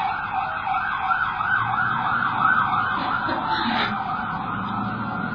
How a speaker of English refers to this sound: Satan driving his ambulance around again. I'm convinced. Every time I go to make a big point, either an ambulance or a train goes by.